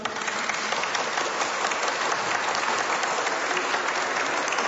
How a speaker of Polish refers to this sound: Gorąco witamy i pozdrawiamy wszystkich słuchaczy Radia Maryja, którzy w tym momencie są razem z nami, a pozdrówmy ich gorącymi oklaskami.